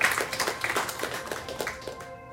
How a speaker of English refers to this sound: She's now an ascended master. How about that? Yeah, it deserves an applause.